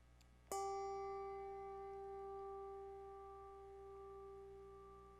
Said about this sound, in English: Listen, as a bell rings out clearly and crisply, I invite you to lean in and to hear.